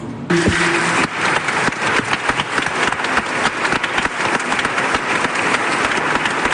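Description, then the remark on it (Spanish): Sustained applause for a bishop in a sacristy, partly from priests, many hands clapping densely and steadily at a fairly loud level throughout, with no voices standing out. “Después de recibir este ovacionado aplauso en la sacristía también de parte de los sacerdotes, le quedaba la sorpresa final.”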